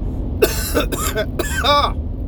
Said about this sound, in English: I think that cough did it.